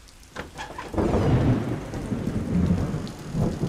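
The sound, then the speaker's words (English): Steady rain hisses while a deep, rolling thunder rumble swells in after a brief quieter moment and keeps grumbling underneath, with no voices. “It doesn't hurt to have them spend a night in the rain, to remind them what it is like to truly be soldiers.”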